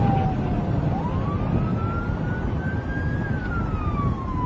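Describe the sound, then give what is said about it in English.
A police siren wails in a slow rising and falling tone, steady and fairly prominent above a constant loud rumble of road and engine noise from a moving vehicle, heard in video recorded from the police squad car. “So, but play that video again from his squad car.”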